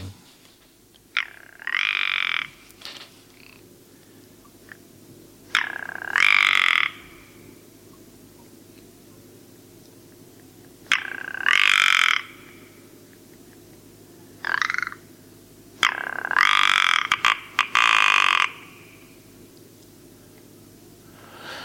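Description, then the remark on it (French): A ptarmigan, a high-mountain bird of the Galliformes family, gives hoarse, grating croaks in about five rattling bursts, each lasting one to two seconds and separated by short pauses, over a faint steady background hiss. “Le lagopède, c'est vraiment quelque chose de très archaïque comme chant.”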